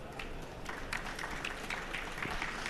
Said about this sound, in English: So let's give a round of welcoming applause